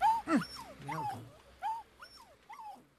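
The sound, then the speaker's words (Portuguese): A small dog whimpers and yips in a series of short, high-pitched cries, several close together then tapering off into softer whines, moderately loud. “Outra vez este cão miserável.”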